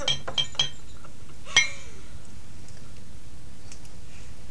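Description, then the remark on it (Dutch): Glass bottles clink together several times while corks are handled: three quick light taps near the start, then one louder ringing clink, followed by quiet handling noise. “Nou, de kurken nog.”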